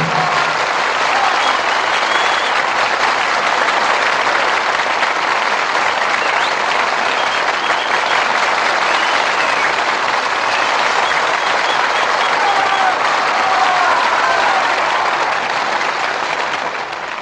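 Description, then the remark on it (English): Sustained applause from an audience after a performance of The Jolson Story with Al Jolson, Evelyn Keyes, William Demarest and Ludwig Donath, a dense, steady roar of many hands clapping that stays loud and even for the whole stretch, with no talking over it. “All our thanks to Al Jolson, Evelyn Keyes, William Demarest, and Ludwig Donath, who returned to the footlights in response to your applause.”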